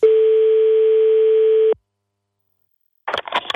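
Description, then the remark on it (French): A single long, steady telephone ringing tone from an outgoing call to the La Rochelle urban community office, asking about the waste disposal site, sounds clearly for under two seconds, followed by a pause of silence before a voice briefly begins speaking as the line is answered. “on avait passé ces petits coups de fil il y a quelques temps.”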